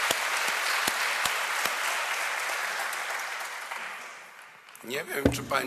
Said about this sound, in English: But you wouldn't have written your papers if it hadn't been for your great lecturers and great thesis reviewers. So a round of applause to them as well.